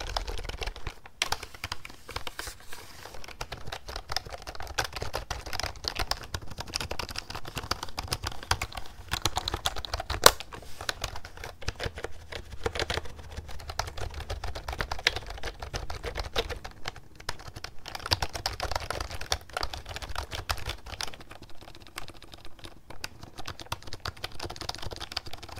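Rapid, continuous clacking of fingers typing on a cheap one-dollar computer keyboard, dense irregular keystrokes with a slightly hollow, plasticky rattle, no voices.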